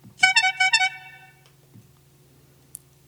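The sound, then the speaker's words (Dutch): A short electronic horn notification tone: three quick, bright, brassy honks in a row that trail off, played fairly clearly over a faint low hum, followed by a tiny click. “Hoorn.”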